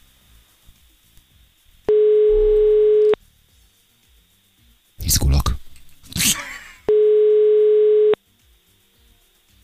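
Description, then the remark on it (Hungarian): Two steady telephone ringback tones sound over the line, each lasting just over a second and spaced about five seconds apart, with a brief burst of talk in the gap between them. “Jó, megpróbáljuk akkor még gyorsan, csak abszolút kicsöng.”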